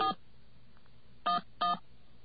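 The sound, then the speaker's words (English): Three short touch-tone beeps from a telephone keypad dialing 411 to call information: one beep, a long pause, then two more close together. The tones are clear, with no voices. “We'll dial, what should we dial, 411?”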